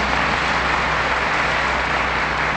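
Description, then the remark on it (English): An audience claps steadily for nearly three seconds, a dense, even wash of applause with no voices breaking through and no lull in loudness, applauding staff members who have just been introduced. “I'm going to let you clap one more time, just one more.”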